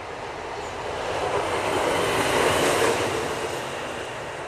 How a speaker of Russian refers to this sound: А тут поезд идет.